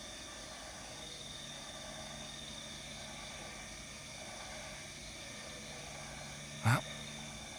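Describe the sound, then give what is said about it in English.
A dense, continuous chorus of frogs calling in rice fields in Ubud merges into a steady, buzzing drone with no clear individual calls, broken once near the end by a single sharp click. “It sounds like the frogs are starting up out in the rice fields.”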